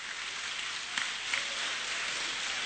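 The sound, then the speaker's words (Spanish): A crowd at a religious service applauds the Lord steadily, a dense wash of many hands clapping together at a constant level, with a couple of slightly sharper claps standing out briefly. “Aplauda al Señor.”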